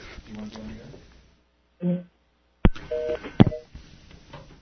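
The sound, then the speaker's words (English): A few short telephone keypad tones beep in quick succession, broken up by sharp clicks of a handset, with muffled voices and line noise before and after, as a caller hangs up and dials back after hearing a busy signal. “I'll hang up and call back.”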